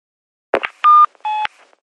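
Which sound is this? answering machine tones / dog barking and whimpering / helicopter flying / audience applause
answering machine tones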